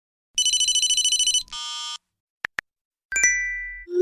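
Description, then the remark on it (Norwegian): A rapid trilling phone ring, then a buzzy tone burst, two short beeps, a bright chime and a rising whoosh: a quick, crisp sequence of mobile phone ringtones and message alerts, with no talking. “De samlede lydene fra en dag i telefonens liv.”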